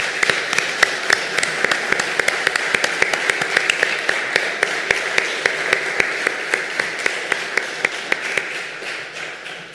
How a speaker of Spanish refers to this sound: Así que pido un aplauso para todos ellos.